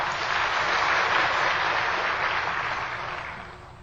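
Sustained applause from an audience welcoming a speaker to the stage to give a report, a dense wash of many hands clapping at steady loudness before gradually tapering off toward the end, with no talking.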